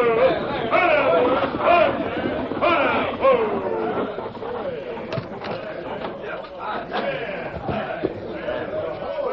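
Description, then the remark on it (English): A crowd gathered at a stagecoach station in Clareton, many voices chattering at once, a steady murmur of overlapping talk with no words standing out, broken now and then by a few sharp knocks and clatters. “As he walked toward the station, his steel gray eyes studied the crowd that had gathered.”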